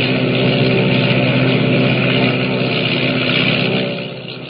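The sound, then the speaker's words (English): Loud, steady roar of a giant seaplane's motors during takeoff as it skims across the water and rises into a dark sky, a dense continuous engine drone with a low hum, holding strong before easing off slightly at the end. “Motors roaring, the giant seaplane skims across the water and rises into the dark, foreboding sky”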